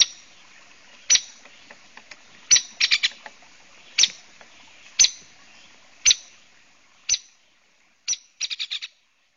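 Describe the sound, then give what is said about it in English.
A downy woodpecker gives sharp, high-pitched pik calls spaced a second or so apart, ending with a quick run of rapid notes. The calls are clear, with no talking. “And it actually looks very, very much like the hairy woodpecker. Does downy have a softer call?”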